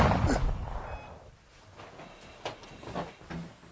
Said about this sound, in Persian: صدا چی بود؟ چی بود؟ صدا تیر بود، فکر کنم از بیرون بود.